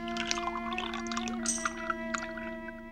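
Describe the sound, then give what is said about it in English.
A commander pours an orange drink steadily into a glass in her private quarters, with splashy, trickling bursts over a constant low electronic hum; no one speaks. “In her private quarters, the Romulan commander pours a drink.”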